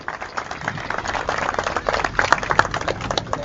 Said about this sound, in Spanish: Así que le recibimos con un fuerte aplauso en esta asamblea del barrio San Jorge al futuro gobernador de nuestra provincia, licenciado Hugo Pasaracua.